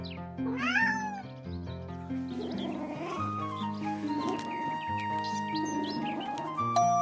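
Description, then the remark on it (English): A kitten gives a clear, high-pitched meow near the start, with a few softer mews following, all over steady background music with no talking. “A kitten is a very young cat, just as a child is a very young person.”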